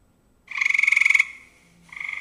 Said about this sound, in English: Tree frog noise. Okay, so this is our early evening.